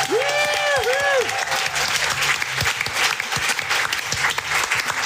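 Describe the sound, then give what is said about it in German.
Sustained audience applause for Seenluft24, a dense crackle of many clapping hands, loud and continuous throughout, with a brief whooping cheer near the start. “einen riesen großen Applaus für Seenluft24.”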